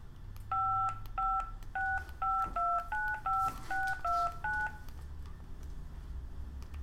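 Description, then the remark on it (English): A telephone number being dialed to call back after hanging up: about ten quick touch-tone beeps in a steady, brisk sequence, clear, over a faint low background hum, then the line goes quiet. “Okay, Call it back.”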